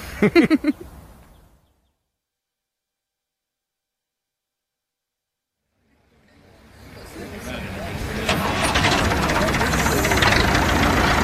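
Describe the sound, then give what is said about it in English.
After a short voice at the start and a few seconds of silence, the engine of a tractor with no one on it fades in and settles into a loud, steady idling rumble. “Seeing the tractor with no one on it.”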